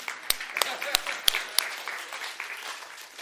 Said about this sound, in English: We can clap.